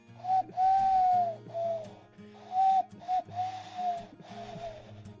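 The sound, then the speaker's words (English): A person's voice imitates an owl, giving a string of about six breathy, wavering hoots in quick, uneven succession, moderately loud with no other sounds. “My owl impression.”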